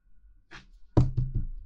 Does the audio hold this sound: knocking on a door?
yes